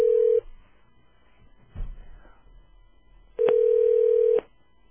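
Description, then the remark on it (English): A telephone ringback tone purrs while a call waits to be answered: a brief tail of one ring, quiet line noise, then another steady one-second ring, clear. “Or he does not pick up.”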